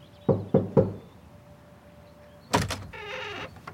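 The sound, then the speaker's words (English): An unexpected visitor gives three quick, firm knocks on a wooden home door, evenly spaced, followed after a short pause by a clunk and a creaking squeal as the door swings open. “One day, I had an unexpected visitor come to my door.”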